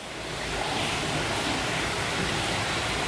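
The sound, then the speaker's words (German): A small fountain inside the cloister of Bebenhausen Abbey near Tübingen, Germany, surrounded by a little garden and open cloister walks, splashes softly and steadily, a continuous gentle trickle of water with no pauses, heard on its own without any voices. “Im Innern des Klosters plätschert leise ein kleiner Brunnen, umringt von einem Gärtchen und den offenen Klostergängen.”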